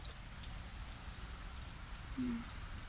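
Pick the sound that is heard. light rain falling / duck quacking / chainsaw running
light rain falling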